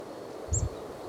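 A single short, high type 1 call from a chickadee foraging within 1 meter of the ground in a dense thicket rings out over steady rustling of leaves and a soft low thump, brief.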